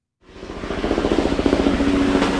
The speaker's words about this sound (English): You're listening there to the sound of helicopters hovering over neighborhoods in the Florida Keys. It's a sound that Floridians are hearing all over their state. Those choppers now routinely spray pesticides